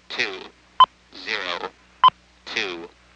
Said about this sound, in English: Please say your four-digit machine type, one digit at a time, following each beep.